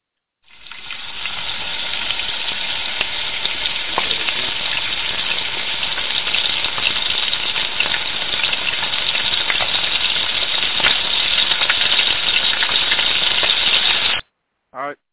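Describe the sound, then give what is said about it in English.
Chicken frying in hot oil, a loud, steady sizzle and crackle that holds for about fourteen seconds with scattered sharper pops, then stops abruptly, followed by a brief faint burst. “Oh, yeah, okay then, well, all right then, Chicken, you got to get fried.”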